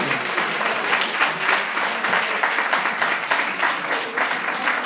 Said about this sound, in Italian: un bel applauso ancora di tutti.